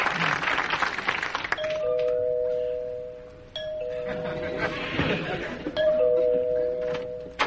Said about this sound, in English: Tell me, why does it take three rings of the doorbell for you to answer?